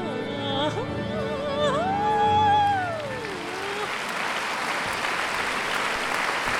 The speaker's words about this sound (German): Aha, die Leute klatschen. Das heißt, der Dirigent ist da. Dann fängt die Oper jeden Moment an.